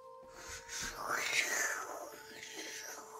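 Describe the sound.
A voice imitates ocean waves with a breathy, hissing whoosh that swells to a peak and then slowly fades into a softer shushing.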